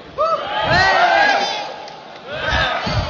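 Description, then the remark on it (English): A studio audience erupts in loud cheering and whooping as the host points to a contestant's hat, swelling for about a second and a half, dipping briefly, then rising again in a second burst of shouts and yells. “All I have to do is point to his hat and we get a cheer.”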